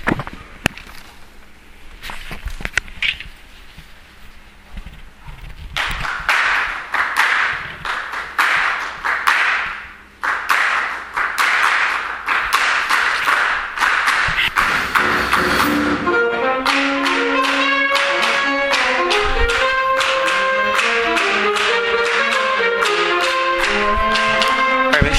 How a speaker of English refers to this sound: With the clapping, we gotta make sure that there is an intentionality with it, because it was a couple moments whenever we weren't all quite together.